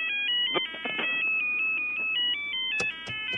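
A radio phone rings with an electronic ringtone that chirps in a steady, stepping melody of bright beeps, fairly loud, with a few sharp clicks near the end and no talking.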